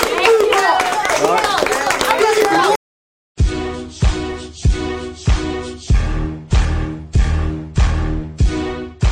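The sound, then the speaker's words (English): A loud crowd at a Christmas gathering of kids and parents cheers and claps amid overlapping shouting voices for about three seconds, then a brief silence gives way to a steady, booming music beat with repeated heavy hits. “Y'all, hey, y'all give a round of applause for the D-Block guys.”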